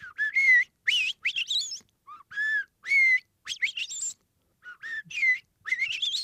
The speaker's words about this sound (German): Unterm Strich beeindrucken so selbst einzelne Vögel mit einem erstaunlichen Lautrepertoire, zum Beispiel die Amsel. Die hat nicht nur ihren Gesang.